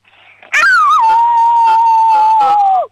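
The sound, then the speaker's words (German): A six-year-old child from the state of Vorarlberg imitates a wolf howl: one loud, drawn-out cry that swoops down from a higher pitch, holds steady for about two seconds, then sags at the end. “So, und jetzt hätte ich gern, dass du heulst wie ein Wolf, aber so richtig laut.”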